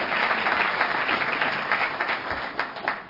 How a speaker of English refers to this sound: Grateful to God for that. Absolutely. You can clap. It's all right. It's all right.